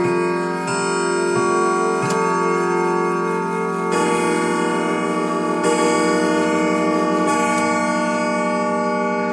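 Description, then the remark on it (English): A clock strikes the hour, with about five resonant chimes at a slow, steady pace, each ringing tone overlapping the next. The sound is fairly loud, and no one speaks. “As the clock strikes, and Cecil awakes once more”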